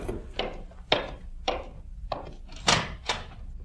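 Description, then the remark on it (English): A series of about six sharp knocks on a wooden door of a workroom over a drugstore on Main Street, at night, unevenly spaced over a few seconds, each a solid hollow rap with no voices in between. “And then one night, when I was nearly through with my work, there was a knock on the door.”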